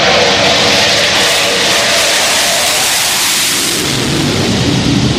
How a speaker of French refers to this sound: Voilà, les rafales sont à l'aplomb du porte-avions. Donc là, ils sont en train de revenir de leur mission Mars Strike. Ils orbitent autour du porte-avions et donc ils se configurent petit à petit pour se préparer à l'appontage.